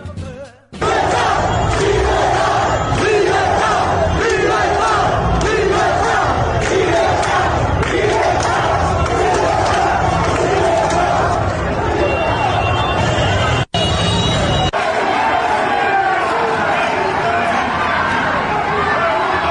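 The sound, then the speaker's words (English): A large crowd of Cuban protesters shouts and chants for freedom in the streets, a loud, continuous roar of many voices, with a brief break near the end before the clamor resumes. “Those are some of the sounds of people shouting for freedom.”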